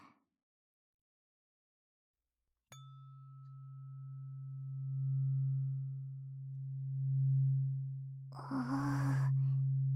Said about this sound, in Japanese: ブーンってするね。音で耳の中までブルブル震えて耳垢取れやすくするよ。